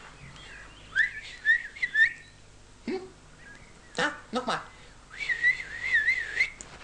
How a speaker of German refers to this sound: Kinder, ich habe einen Einfall gehabt. Jetzt muss ich nur mal ganz vorsichtig pfeifen.